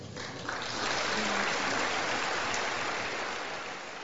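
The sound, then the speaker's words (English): Thin, scattered audience applause after new House Speaker Mike Johnson's opening statement following his election on October 26th. A steady patter of clapping swells after the first half second, holds at a modest level, then tapers slightly toward the end with no voices. “The applause was rather anemic, was it not?”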